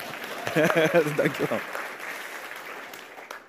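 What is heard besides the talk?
audience applause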